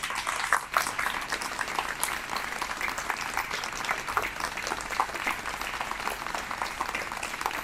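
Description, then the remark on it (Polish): Steady applause from a sizable outdoor crowd in the rain, a dense patter of many hands clapping at once, holding an even, moderately loud level for several seconds with no voices standing out, for Zofia Kucówna, laureate of the grand prize of the Dwa Teatry Zamość 2023 festival. “Ja wiem, że pada, ale drodzy Państwo, gorące brawa, odłóżmy te parasole.”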